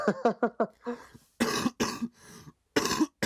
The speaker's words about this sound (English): Excuse me, I just coughed a bunch.